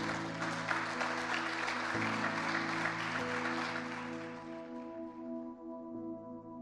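An audience at an evening church service claps steadily and loudly for Jesus for several seconds, the applause thinning toward the end while a sustained keyboard or organ chord hums underneath.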